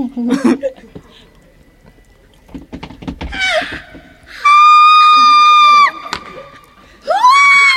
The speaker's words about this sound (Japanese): いただきました。すごい、もう最初言葉にならない悲鳴が。 すごい、 すごい、酸 っぱい、 酸っぱい、